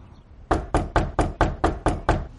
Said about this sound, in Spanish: llama a la puerta de Joy.